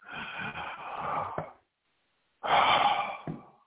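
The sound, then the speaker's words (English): Two long, airy breaths, a deep drawn-in inhale followed after a brief silence by another breathy rush of air, with no talking. “When I hear the howl whistle, I inhale.”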